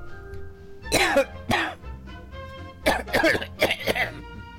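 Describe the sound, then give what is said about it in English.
Several harsh, raspy coughs in uneven bursts, a pair early on and then a quicker cluster of three, fairly loud over a soft sustained musical backing, in a radio advertisement for Cannoli's Canine Cough Drops. “If your dog is coughing, he's coughing for a cannoli.”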